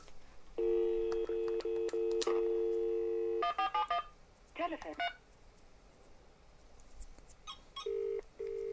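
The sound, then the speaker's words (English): A steady telephone dial tone hums for a few seconds, then gives way to bursts of keypad tones as the number 1471 is punched in on the phone, followed by a couple of short beeps, clear. “So I'm going to 1471 with this phone.”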